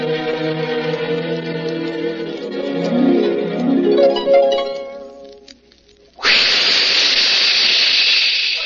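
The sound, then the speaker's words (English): In a radio advertisement for the Raleigh 903 cigarette, a few seconds of tonal, rising music fade out, then a sudden loud, steady hiss of a spraying jet of moisture, standing for the Moisturize Raleigh 903, bursts in and continues without a break to the end. “That jet of fresh, pure moisture stands for the new, different Moisturize Raleigh 903.”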